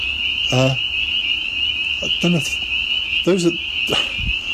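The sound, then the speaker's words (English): A steady, shrill chorus of peeper frogs, little frogs, rings continuously in the background, with three short, lower, throaty calls standing out at intervals. “Those are ick's peepers, little frogs.”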